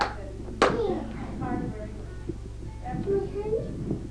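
A single sharp, close hand clap rings out early, followed by a couple of softer taps, while a young child vocalizes in high, sing-song sounds around them.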